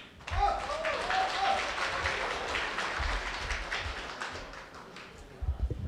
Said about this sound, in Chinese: 感谢您的掌声鼓励。